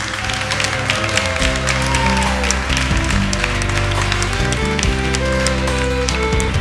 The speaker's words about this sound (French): Je pense que ça vaut même la peine de les applaudir parce qu'ils sont merveilleux.